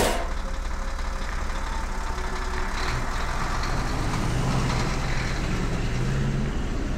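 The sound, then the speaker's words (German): A heavy garbage truck engine rumbles steadily and loudly as it drives off, a deep continuous drone with a constant level throughout and no voices. “Was zum Geier macht denn die Müllabfuhr hier im Rechner?”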